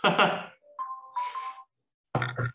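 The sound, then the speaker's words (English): A phone alarm, a medication reminder to take an injection, chimes briefly: a short electronic melody of steady mid-pitched tones lasting about a second, framed by a sighing breath before and a short vocal sound after. “So my mum one day came into my room and, oh, there's my alarm going off to tell me to take my injection.”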